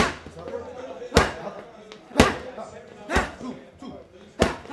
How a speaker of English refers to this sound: Diaz throws a flurry of warm-up punches into a coach's padded mitts